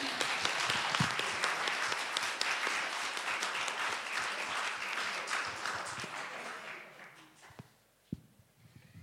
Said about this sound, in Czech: Takže pojďme jim ještě zatleskat.